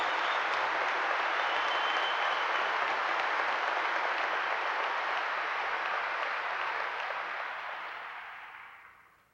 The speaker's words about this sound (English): I really appreciate the fact that I know you are not applauding men tonight. I am convinced that you are applauding the greatest country on the face of this earth, and you want it to remain the greatest country on the face of this earth.